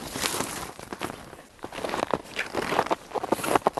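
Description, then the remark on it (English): Footsteps crunch steadily over dry, cold snow on a frozen brook at about 20 below zero, each step a gritty, crackling squeak in an even walking rhythm, fairly loud and continuous with no voices. “There's kind of a different sort of stillness, and even the snow takes on this dry, crunchy texture that tells you that it's really, really cold.”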